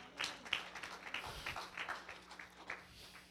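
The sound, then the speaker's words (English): A crowd claps in worship to the Lord, many hands clapping in a dense, continuous patter of sharp, bright claps with no voices over it. “Give the Lord a clap of worship tonight.”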